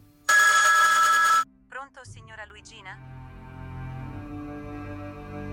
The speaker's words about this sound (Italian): Poi lo squillo del telefono. Un suono stridulo.